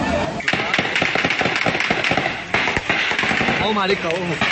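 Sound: gunfire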